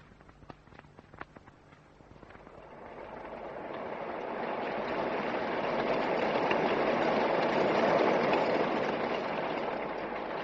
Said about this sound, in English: Listen to that rain. Oh, the well should fill a little.